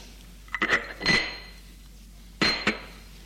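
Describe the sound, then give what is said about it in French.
A woman sets her teacup down on a table after sipping her tea: a cluster of sharp porcelain clinks with a faint ringing tone, then a pause and two more bright clinks, with no voices. “Elle hausse ses épaules, elle boit une gorgée de son thé et pose sa tasse.”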